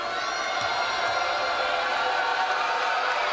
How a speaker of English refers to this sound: Crowd loud here.